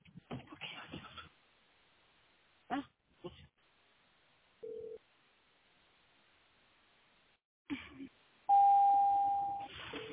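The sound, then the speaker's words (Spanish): Brief speech gives way to a steady electronic phone ringing tone as a call is placed by a Siri voice command: a short mid-pitched burst, then after a pause a louder, higher sustained tone of about a second. “Hey, Siri, call Karen. Hey, Sam. Calling”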